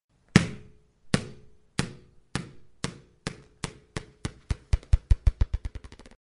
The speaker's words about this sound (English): Oh, and bouncing balls?